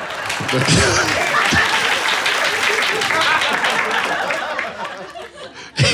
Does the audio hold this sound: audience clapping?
yes